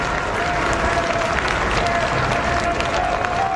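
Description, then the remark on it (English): A large crowd gathered outside Rome's Gemelli Hospital applauds and cheers as Pope Francis, pushed onto his room's balcony in a wheelchair, blesses them: a steady, dense roar of clapping and mingled voices, loud and even throughout, with a thin high whistle-like tone drifting through. “He was pushed out onto the balcony of his room in a wheelchair and blessed the crowd gathered outside the hospital.”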